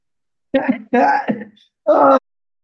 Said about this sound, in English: Oh, you made me laugh and cough at the same time.